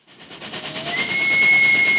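A steam train rumbles along the rails with a steady, building mechanical roar and faint rhythmic clatter, joined partway through by a thin, sustained whistle tone, fairly loud.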